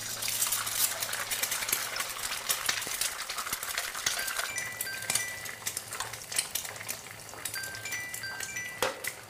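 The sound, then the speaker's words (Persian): Eggs are dropped into a hot frying pan and sizzle, a steady, loud crackling hiss scattered with sharp pops and a few light metallic clinks, continuing throughout with no voices. “تخم مرغ ها رو توی ماهیتابه میندازه.”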